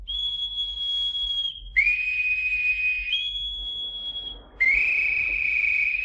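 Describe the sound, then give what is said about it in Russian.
A boatswain's whistle calls all hands with long, piercing steady notes that step between a high and a slightly lower pitch, four sustained blasts in a row, loud, with no talking. “Эй, боцман, свистать всех наверх.”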